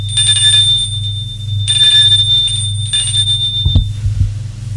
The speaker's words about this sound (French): Sonner à la porte.